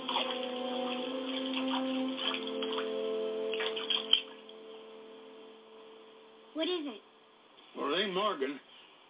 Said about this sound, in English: Which way is that creek running? Hard to tell. It ain't really running. What's wrong? I don't know. Don't sound right. Take me down to the water.